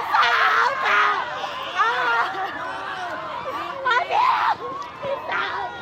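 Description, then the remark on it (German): A dense crowd shouts and screams together in protest, many overlapping raised voices rising and falling in loud, continuous waves for several seconds, intense; a scene from Milo Rau's film Antigone in the Amazon reenacting the military police massacre of demonstrating landless people on 17 April 1996. “Es ist nötig zu schreien, hatte Milo Rau der Presse erklärt, und gleich zu Beginn schallt dieser Schrei wie ein Appell vom lateinamerikanischen Kontinent in den europäischen Kulturbetrieb.”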